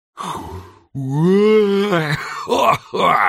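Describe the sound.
A voice imitates a man's big, contented yawn as he stretches, spreading his arms wide: a breathy start, then a long, loud groan that rises and falls as if stretching, trailing off into a few short, breathy vocal sighs.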